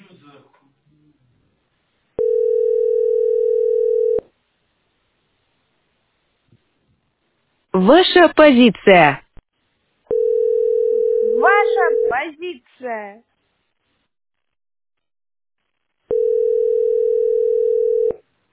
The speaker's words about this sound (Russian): Да говорю, гудки продолжают идти.